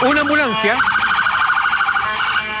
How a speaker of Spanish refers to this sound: una ambulancia está pasando hasta ahora por el puente Pedro de Valdivia. Está pidiendo que se abra el tránsito vehicular en el viaducto que une el centro hacia el sector de Isla Teja. Hacia esa dirección se dirige la ambulancia.